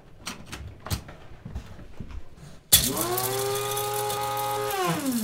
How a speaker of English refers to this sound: And so to make it perfect, I like to put everything in the blender. So we put a little ground ginger, some powdered ginger. Do you sometimes use fresh ginger also? Yes, I do that. So I'm gonna use this machine.